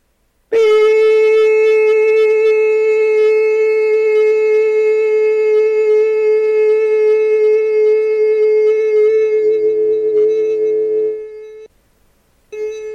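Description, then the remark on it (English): A person vocally imitates a long beep in a challenge to beep as long as possible, holding one steady, buzzy, mid-high note loudly for about ten seconds before it wavers and cuts off, followed by a brief faint sound. “Try to beep as long as you can.”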